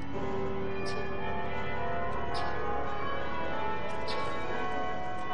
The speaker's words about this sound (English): The bells toll 5 o'clock from the soaring Gothic steeple.